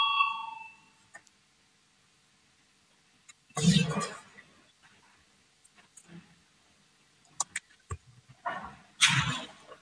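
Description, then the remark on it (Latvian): A parliament voting bell rings with a bright, steady electronic tone that fades within about a second, followed by scattered loud thuds, clicks and low murmuring voices, as the vote is called on deputy Viktors Valainis's proposal 185 on keeping Dobele municipality within its borders. “Lūdzu, zvanu, balsosim par 185 deputāta Valaini priekšlikumu.”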